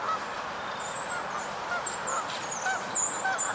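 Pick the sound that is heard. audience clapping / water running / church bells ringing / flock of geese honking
flock of geese honking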